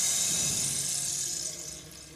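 Rain starting to fall hisses down in a dense, bright wash of patter with no voices, holding even for a moment before easing off and growing softer toward the end.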